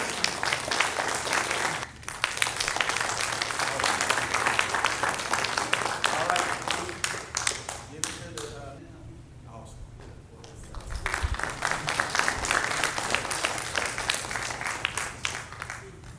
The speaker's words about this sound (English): Y'all give them a hand as they come up.